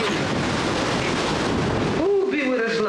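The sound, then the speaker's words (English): A loud, dense rumble of thunder rolls for about two seconds, filling the space with broad stormy noise, then fades as a person begins speaking over the lingering background. “Girl, I hear some thunder.”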